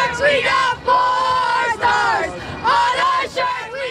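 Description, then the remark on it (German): A large crowd of fans cheers and chants loudly, their many voices rising in rhythmic, surging bursts with brief dips between phrases, like an ecstatic celebration, at a parade along the Canyon of Heroes in Manhattan, New York, with paper strips raining down from the skyscrapers. “Frenetischer Jubel, tosende Fans und aus den Wolkenkratzern Manhattans regnet es Papierstreifen.”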